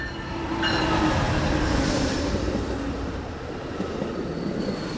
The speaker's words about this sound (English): This is train 365, which is westbound for Battle Creek, Kalamazoo, Dowagiac, Niles, New Buffalo, and Chicago. Monday morning, 8:28 a.m., the Blue Water Amtrak pulls into East Lansing on its westbound journey to Chicago.